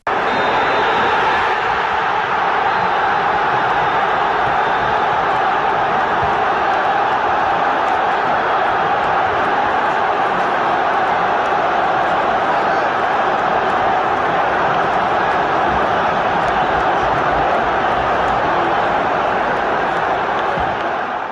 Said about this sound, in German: Mario hat auch den Schlusspfiff noch kurz hier für euch eingefangen.